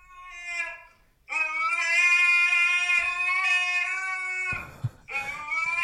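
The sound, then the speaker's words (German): A fat husky lying in front of a door howls in long, drawn-out tonal cries: a short wavering call, then a loud sustained howl of about three seconds, and another starting after a brief rustling pause. “Aber warum jault der denn?”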